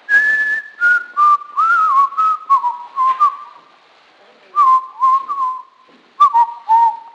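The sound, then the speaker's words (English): Someone whistles a bright, melodic tune in short gliding phrases with a brief pause midway before the melody picks up again. No one speaks. “And then that guy came along and started singing that song and whistling, I whistled so good last time you guys applauded.”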